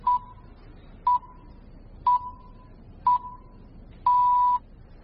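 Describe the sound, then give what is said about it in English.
Greenwich time signal pips: short, evenly spaced electronic beeps one second apart, ending in a longer sustained tone. Clear and fairly loud over faint background hiss, with no talking. “An estate agent's photo in the bloody Greenwich Pips.”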